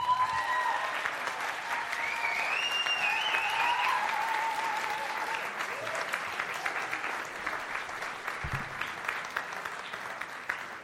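A large crowd claps steadily for several seconds, the dense applause sustained throughout with some whoops and cheers rising briefly early on, no talking heard.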